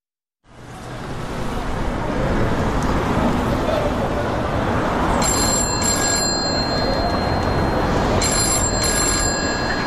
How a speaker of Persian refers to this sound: تلفن زنگ زد.